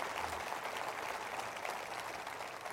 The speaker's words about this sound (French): Alors, je veux les saluer ce matin, tous nos amis francophones dans le Canada, et j'aimerais que vous leur souhaitiez, saluez-les en les applaudissant, les francophones canadiens à travers le Canada.